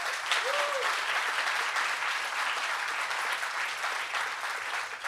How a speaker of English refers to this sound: I am going to ask you to applaud the man who produced it.